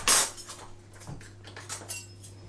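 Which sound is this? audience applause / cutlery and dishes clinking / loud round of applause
cutlery and dishes clinking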